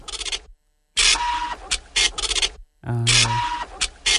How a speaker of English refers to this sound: That sound that you're hearing right now was called a dot matrix printer. And it's the only kind of printer we had. This is all we had. Mm-hmm. If you wanted to print something out, it would go line by line. With dots.